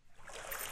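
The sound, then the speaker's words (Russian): Soft, continuous splashing water, a brief rushing wash that swells slightly and holds steady, fairly quiet and heard on its own without voices. “Плеск воды?”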